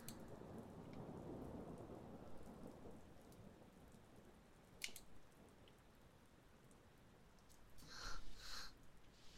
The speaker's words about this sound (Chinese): 打雷了，我一个人有点害怕。